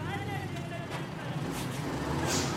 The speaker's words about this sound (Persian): راننده کامیون رو روشن میکنه و میره.